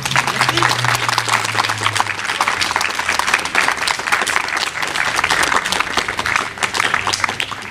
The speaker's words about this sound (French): Des applaudissements aussi par rapport à ces prises de parole.